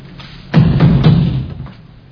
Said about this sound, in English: Knock.